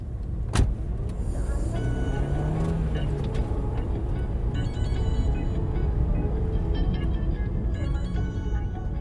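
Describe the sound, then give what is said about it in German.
A Dacia Logan taxi drives steadily along a road from Bistritz toward the Borgo Pass and the Carpathian village of Piatra Fintinelle, heard from inside with a constant low engine and road rumble, a sharp click near the start, and faint rattles and a brief whirring rise. “In seinem Dacia Logan fahren wir ins Karpatendorf Piatra”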